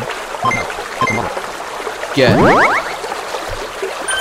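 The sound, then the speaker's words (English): A short video game sound effect of scooping up water from a river: a quick splash followed by a rising, bubbly filling tone lasting about half a second, over a faint background murmur. “Like, you can get water from the river.”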